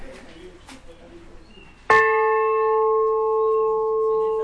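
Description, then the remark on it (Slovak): After a quiet stretch of faint background murmur, a visitor strikes a large bell once, its bright metallic tone ringing out loudly and sustaining steadily with clear overtones. “A ideme teda k tomu zvonu. Zazvonte vy, nech sa páči.”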